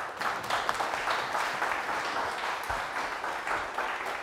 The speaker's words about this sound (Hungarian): Köszöntsük őt egy tapssal!